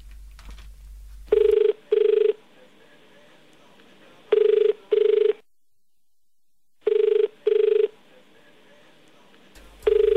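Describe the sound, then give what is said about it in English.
A phone ringback tone on an outgoing call: repeated pairs of short, steady mid-pitched buzzy rings separated by longer silences, fairly loud and heard alone. “It's bloody ringing a lot.”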